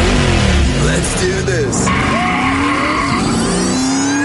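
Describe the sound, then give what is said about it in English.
A car engine roars to life and revs hard during a driver's test, its pitch sweeping up and down, with tire squeals mixed into a loud, continuous burst of motor noise. “Please start the car, sir.”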